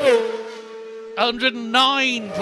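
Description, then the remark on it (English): A racing motorcycle, the first bike over School Hill Rise, screams past at high revs, a loud, steady buzzing whine that briefly cuts out and surges back with a couple of sharp bursts before holding its pitch again. “First bike over School Hill Rise.”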